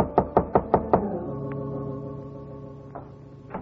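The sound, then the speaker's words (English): Five quick, evenly spaced, firm knocks on the door of a bungalow in a bungalow court on Normandy, followed by a lingering resonant hum and a couple of faint taps in the quiet afterward. “It was a bungalow court on Normandy, and it took her a long time to answer the door.”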